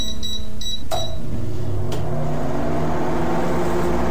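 A few quick electronic beeps and a couple of sharp clicks, then a microwave oven's steady low hum and whir as it runs heating food, with no one talking.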